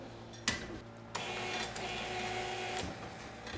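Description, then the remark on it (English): A pedal-operated bottle labeling machine, like a sewing machine foot pedal, labeling bottles one by one, clicks, then starts up with a steady mechanical whirring and rattling hum that runs for a few seconds before easing off near the end, with no voices. “And this thing has a little foot pedal, kind of like a sewing machine.”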